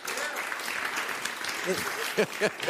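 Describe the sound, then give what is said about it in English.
A crowd applauds steadily, a dense wash of clapping that holds at an even level throughout, with a few brief voices or cheers rising over it toward the end. “Every time you want to talk, this guy's getting applause.”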